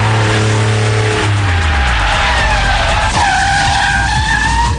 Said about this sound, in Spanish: Frenazo en seco.